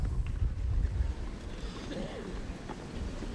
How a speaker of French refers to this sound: Avec le vent qui s'est encore un peu plus levé.